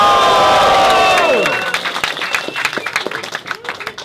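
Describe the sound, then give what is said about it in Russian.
A concert crowd cheers loudly, high whoops sliding downward in pitch, then settling into steady, dense applause and crowd noise that continues to the end. “Ну пошумите, если узнали что-то, камон!”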